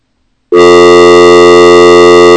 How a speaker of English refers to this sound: Alright, so we can bring the dial tone into the board. We do have dial tone into the board.